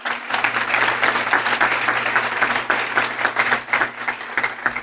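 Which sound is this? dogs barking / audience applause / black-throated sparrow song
audience applause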